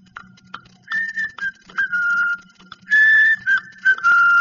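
Someone whistles a simple melody in several short phrases, the tone clear and fairly loud, with brief pauses between notes and a faint low hum underneath.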